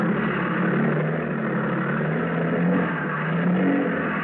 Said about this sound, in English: For 2 hours, the motor sampan labored along towards the coast, dragging the raft behind her.